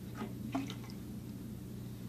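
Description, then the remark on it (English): A soft wet squelch and a few quick liquid pops near the start as the stopper is pulled from a bathtub drain, then a low steady gurgling rumble as the water begins to drain. Fairly quiet, with no voices. “And when you take the stopper out,”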